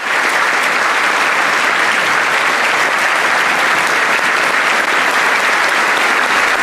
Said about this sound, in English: A standing ovation accompanied by a resounding round of applause that seemed to never end.